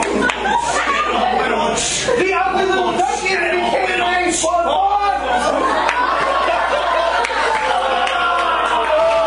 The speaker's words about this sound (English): As you can see, the crowd goes wild, even for the whack rappers.